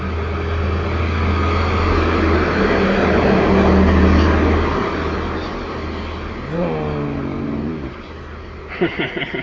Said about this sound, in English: Oh, here comes a big truck.